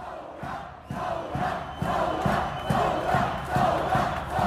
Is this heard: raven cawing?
no